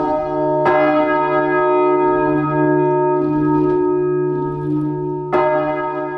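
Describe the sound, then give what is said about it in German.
A heavy, tons-weighing large church bell, switched on by sexton Jörg Prochnau and slowly beginning to swing, rings very close and loud from about 2 meters away, struck twice several seconds apart, its deep humming tone sustaining between strokes; the ringing exceeds 100 decibels. No voices. “Küster Jörg Prochnau hat den Schalter umgelegt und hier hört man, wie die Glocken so langsam in Schwingung geraten.”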